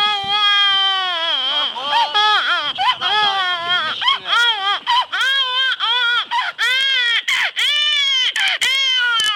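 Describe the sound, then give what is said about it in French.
A beatboxer convincingly imitates a baby crying with his mouth, with loud, wavering wails broken into short sobbing bursts that grow choppier toward the end, with no other sounds. “c'est … qui imite le cri du bébé. Si, je te jure, avec la bouche”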